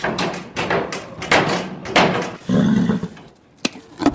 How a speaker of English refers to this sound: As an agitated horse kicks a stable door for food before crunching a carrot